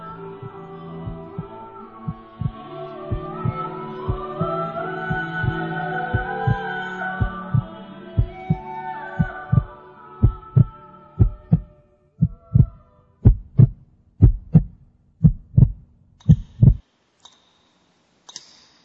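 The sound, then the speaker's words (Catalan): A steady heartbeat thumps in low, paired beats about once a second, starting under a soft sustained tonal drone that fades away, leaving the beats loud and isolated before they stop near the end. “Listen to the silence in the cave, and perhaps we can even hear our own heartbeats.”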